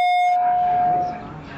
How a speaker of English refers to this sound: I don't know what that was set on before. Alarm, one more time? It sounds a little better. A little more normal.